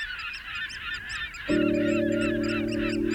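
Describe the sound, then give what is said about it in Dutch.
A large flock of brent geese calls continuously at the northernmost point of the Netherlands, on a small island in the Wadden Sea, with many overlapping throaty honks. Partway through, a steady low hum joins in beneath the calls. “Nou, en mijn favoriete soort, de rotgans. Zo ro, ro, ro.”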